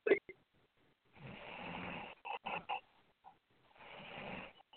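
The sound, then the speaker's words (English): Heavy, raspy breathing close to a phone line, with two long noisy breaths separated by a few short voiced catches, the rough inhales almost like snoring. “I hear you breathing.”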